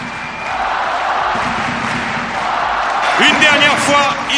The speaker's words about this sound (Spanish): Rafael Nadal Parera perdía, pero la pista Filichatri en pie ovacionaba y aplaudía a nuestro campeón.